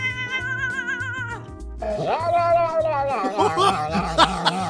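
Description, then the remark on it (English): Cats in videos let out a string of odd, warbling meows and drawn-out yowls that slide up and down in pitch, loud, over a steady thumping rhythmic beat. “Check out these hilarious sounds the cats make.”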